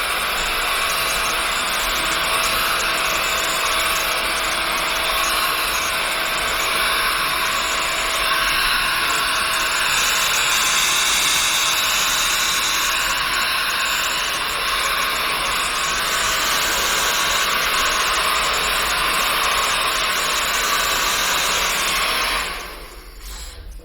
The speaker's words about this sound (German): Jetzt kommt noch mal ein bisschen eine Föhnung.